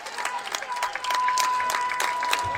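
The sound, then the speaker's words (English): A stadium crowd erupts in steady, loud applause and cheering after John Tussillo's game-winning sacrifice fly to center brings home Alamo, as the Stony Brook Seawolves win 8-7 to become America East regular season champions; a dense wash of clapping and shouting with a thin sustained tone running through it. “And this crowd goes into hysterics off the bat of John Tussillo.”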